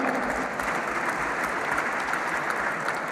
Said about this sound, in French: Chez Honnête Logistique et Production, la liste EFO a obtenu 62%, mes camarades. On peut les applaudir.